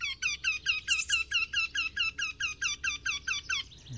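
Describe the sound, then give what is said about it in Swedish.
A Eurasian wryneck calls a long, even series of about fourteen loud, whining, nasal notes, repeated at a steady rhythm with no one speaking. “Göktytan är ju lite gnälligare och en annan rytm. Den säger ju ty, ty, ty, ty, ty, ty, ty, ty, ty, ty.”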